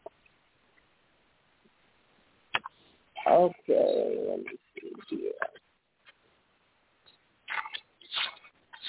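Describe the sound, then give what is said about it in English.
Several bursts of papery rustling and flipping of scripture pages being turned as people look up their favorite scripture come in a cluster over a few seconds, followed by a person speaking briefly. “Come on, I want to hear those pages turning.”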